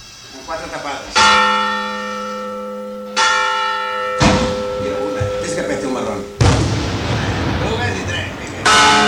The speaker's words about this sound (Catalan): Escoltant amb enrere fons aquest esclat de morterets i aquesta repicada de campanes, el que podríem fer és començar a parlar d'aquest inici tan especial que té la nostra Festa Major.